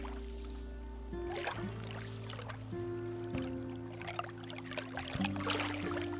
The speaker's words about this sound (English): Beyond the house is Tomales Bay. The waves gently lap against the shore, and you can see the town of Marshall across the bay